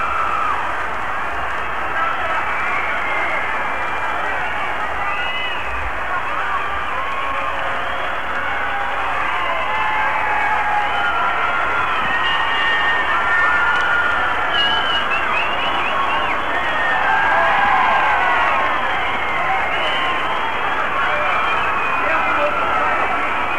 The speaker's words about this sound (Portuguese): O telão mostra tudo como se fosse um grande videoclipe. E a plateia vibra, né? A plateia delira.